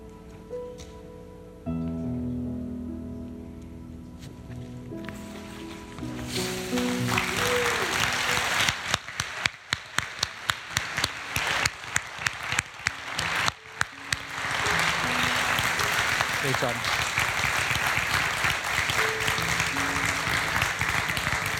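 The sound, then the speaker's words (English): A church audience applauds a baptism, breaking into loud, sustained applause after a few seconds of soft tonal sound. The dense clapping rises quickly and continues steadily to the end, with a few sharper claps standing out. “Can we get one more round of applause for our baptism here?”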